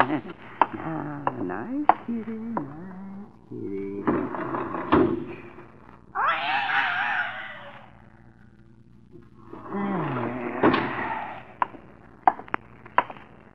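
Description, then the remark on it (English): A door to the hall opens and closes as a cat goes out, with sharp knocks and clunks, a longer rushing scrape in the middle, and another swishing movement before more clicks at the end. “The door to the hall. Oh. Cat just went out the door.”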